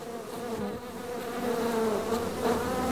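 A dense, steady drone of many aggressive honeybees, suspected to be Africanized, buzzing around a hive, the overlapping wingbeats forming a continuous hum with slight swells, and no voices.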